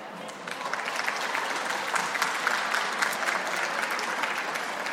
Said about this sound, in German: Und vielen Dank für den freundlichen Applaus. Das freut mich doch.